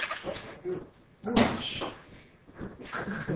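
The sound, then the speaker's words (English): A chair bumps and scrapes against a hard floor, with a sharp wooden knock near the middle and softer shuffling thuds around it, while muffled voices murmur underneath. “It's not you, Jim. It's the chair.”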